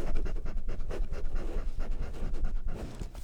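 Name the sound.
dog sniffing and panting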